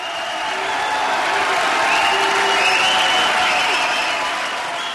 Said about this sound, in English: As the protester was led out of the gallery, Republicans rose to cheer, gradually getting louder until they drowned her out.